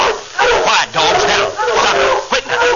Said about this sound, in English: Quiet, dogs. Now, stop it. Quit now. Stop it.